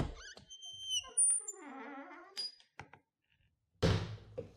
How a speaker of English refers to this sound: Back into the fridge. Yeah. Open that fridge up. Oh, hang on a second. Let me get that fridge door open.